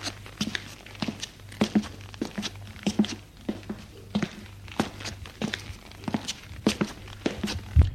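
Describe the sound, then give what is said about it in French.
Footsteps of a man climbing a worn stone staircase with an iron railing to the second floor, at a steady, unhurried pace, each step a soft thud with a scuffing edge, repeating for several seconds over a low constant hum, with no talking. “Il prend les escaliers, intimidé.”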